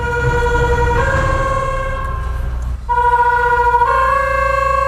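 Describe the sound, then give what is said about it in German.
A loud warning signal at the Glauburgstraße crossing blares to warn construction workers of an approaching U-Bahn train, a harsh horn-like tone alternating between a lower and a higher pitch every second or two over a constant low rumble. “Doch wenn sich jetzt eine U-Bahn nähert, warnt in Höhe der Kreuzung Glauburgstraße ein Signal die Bauarbeiter.”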